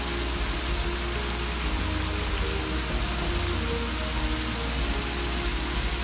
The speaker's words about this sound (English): Suddenly, the creek begins to pick up speed as it roils its way over several small drops.